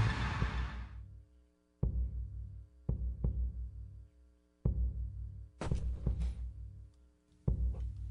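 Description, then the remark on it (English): A deep, booming heartbeat sound effect on KCMO Talk Radio, its thumps landing in lub-dub pairs over a steady low hum, loud with short silences between the beats. “You hear those heartbeats going?”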